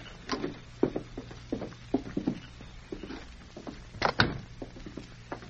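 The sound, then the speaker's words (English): A series of light knocks and shuffling steps, then a louder rattling clunk, like a latch turning as a door of a house is pulled open, followed by a few softer taps. No voices. “I'll open the door.”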